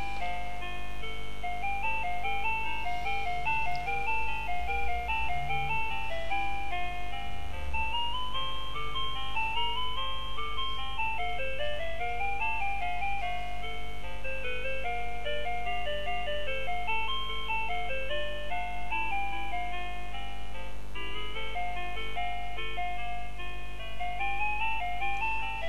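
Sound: telephone hold music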